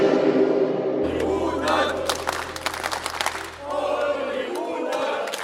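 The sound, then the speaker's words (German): A stadium crowd claps in a dense burst of applause while fans chant together for a team's manager, voices rising and falling over the steady roar, with a low hum underneath. “Das ist auch ungewöhnlich, dass in einem Stadion geklatscht und Fangesänge angestimmt werden für den Manager einer Mannschaft.”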